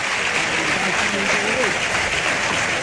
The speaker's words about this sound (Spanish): Bueno, ahí lo tenemos, ahí en medio escuchan la ovación del público. Es un torero que podríamos decir que sin ser de Huelva, aquí se le quiere como tal.